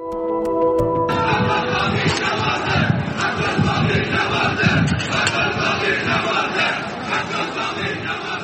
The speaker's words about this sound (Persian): صدای مردمی را میشنیدید که در کنار آوارهای ساختمان متروپول شعار میدادند.